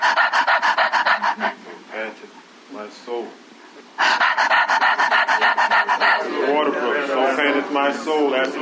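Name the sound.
heavy labored breathing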